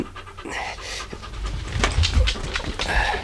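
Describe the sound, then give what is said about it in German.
A dog named Timmy, searching for a scent inside a building, pants and sniffs in quick, breathy bursts, with short snuffling inhales scattered through a steady low rumble. No one speaks. “Er hat schon was gewittert. Hörst du?”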